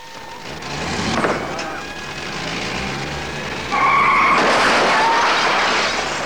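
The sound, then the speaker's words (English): An ambulance speeds off with screeching tires and a roaring engine, growing louder midway as steady high-pitched siren-like tones cut through the rushing noise. “The ambulance drives away.”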